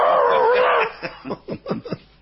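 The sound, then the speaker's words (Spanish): A person imitates a dog with a drawn-out howling yelp followed by a quick run of short, rhythmic barks, loud. “Sí, a ver, vamos a saludar a los perros que nos están escuchando.”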